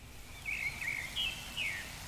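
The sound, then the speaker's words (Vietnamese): Faint birdsong from birds in tamarind branches in the early morning: a few thin, high warbling phrases repeating over a soft steady background hiss, with no voices present. “Chim chóc càng lúc càng hót vang lên trên những nhánh me để đón chào một ngày mới.”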